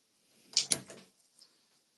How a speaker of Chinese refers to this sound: 去把门打开，把我家猫放进来，稍等我一下。